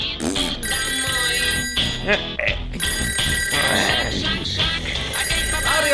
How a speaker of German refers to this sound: Wache auf, Mario, das Telefon klingelt!